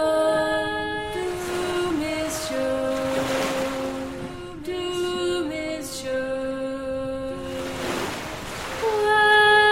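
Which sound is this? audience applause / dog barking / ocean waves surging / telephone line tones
ocean waves surging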